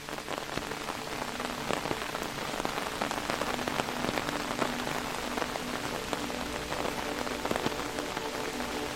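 Steady rain patters densely against a hard surface, water trickling in small streams down the old stone walls of a mill, with scattered drips and trickles standing out from the continuous wash; no voices, just a constant, moderately loud downpour.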